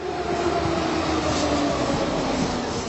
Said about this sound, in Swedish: I en annan scen flyr Issa och den unga kvinnliga advokaten med tunnelbanan från stationen Landungsbrücken. Tåget sätter fart österut.